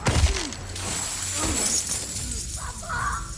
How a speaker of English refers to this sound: The Turk pins the prince to a screen and punches his chin. With a kick, he sends the vampire crashing into a coin box.